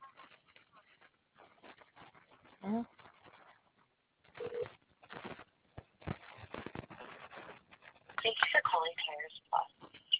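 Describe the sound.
Over a narrow, telephone-quality line, brief steady ringing tones sound intermittently as a call is placed to someone's phone, while voices chatter around them at moderate volume.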